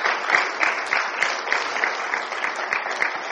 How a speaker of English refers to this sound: So we applaud them.